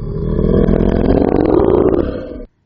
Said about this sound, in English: And my favorite, for right now anyway, is it's just simply titled Monster Growl.